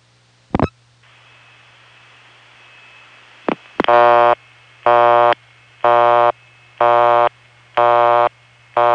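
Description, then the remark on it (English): A harsh, buzzy Bell System telephone busy signal, produced by a ringing machine, pulses on and off in an even half-second rhythm, six loud bursts, preceded by a couple of clicks and a faint steady tone over a low hum. “Here's the not-so-soft busy signal that that same ringing machine produces.”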